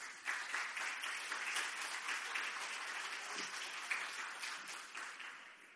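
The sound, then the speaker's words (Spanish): An audience in La Coruña breaks into applause for the last audience member about to speak, a dense, steady wash of many hands clapping at once for several seconds before it begins to thin out toward the end. “Un aplauso muy fuerte para él.”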